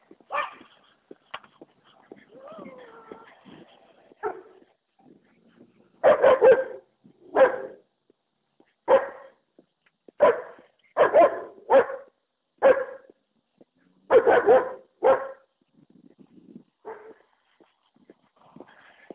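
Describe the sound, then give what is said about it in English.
Dogs bark at a passing walker in a loud burst of about a dozen sharp barks at an uneven pace, preceded by softer whines and yips, with no talking. “Oh, we're going to pass these dogs again.”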